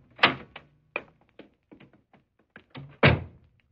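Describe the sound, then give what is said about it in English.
A door opens with a heavy thunk, followed by several small clicks and rattles of the latch, then closes with another solid thud. Fairly loud, with no voices. “Right through this door here.”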